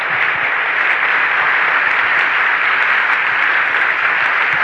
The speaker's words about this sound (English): Amid thundering applause, the crowd rises to its feet as one person. You are there with Dr. Wayne Dyer.